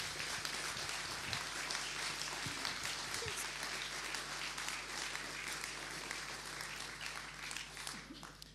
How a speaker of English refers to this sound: I think that's enough. Can we give Ken a round of applause, please?